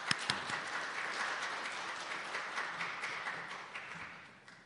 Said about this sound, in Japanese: それでは、皆さん、拍手を持ってお迎えしましょうか。